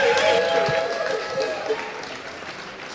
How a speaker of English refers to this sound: I don't think that was enough applause, actually.